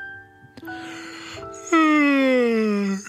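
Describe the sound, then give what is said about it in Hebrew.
A voice imitates a woman's big, drawn-out yawn in a story read aloud, a sustained vocal tone that swells louder and slides slowly downward in pitch before trailing off, heard alone for about three seconds. “פיהקה האישה פיהוק גדול.”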